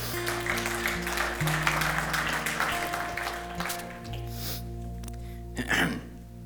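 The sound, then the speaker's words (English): A crowd claps together in a dense burst of applause that gradually thins out after a few seconds, while steady sustained keyboard or organ tones hold underneath. “You can clap that.”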